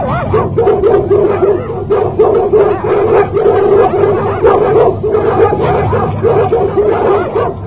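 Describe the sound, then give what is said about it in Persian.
Dog-like barking and whimpering nonstop from beings beaten with wire whips, a loud jumble of rapid yips and whining cries layered over each other for the whole stretch, with no talking. “بعضی را علاوه بر این با شلاقهای سیمی میزدند و آنها صدای سگ در میآوردند”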